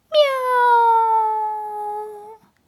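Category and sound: animal, cat meowing plaintively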